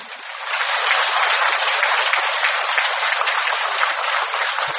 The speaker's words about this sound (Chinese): 大家看见了吗？鼓掌声明显的就响起来了。